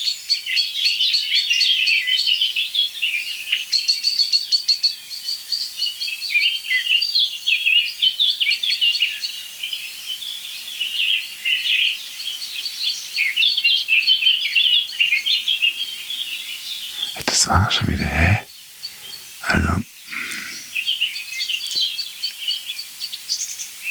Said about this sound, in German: Passt doch nicht, aber es ist Amsel-Singdrossel only, würde ich sagen.